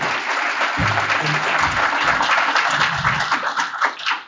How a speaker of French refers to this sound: Alors, une bonne main d'applaudissements pour notre nouveau conseil.